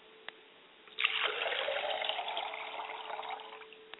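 Water is poured onto the ground as a libation in one steady, splashing stream that starts abruptly, holds for under three seconds, then tapers off. A faint constant hum sits underneath, and no one speaks.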